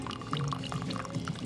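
The last bits of coffee pour into a cup in the morning in a short, steady stream, clear, with gurgling, splashy bubbles that shift in pitch as the cup fills. No one speaks.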